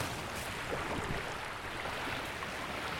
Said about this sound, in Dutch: Een windvlaag waait de papieren blaadjes van de stamboom van Jantien bijna de IJssel in.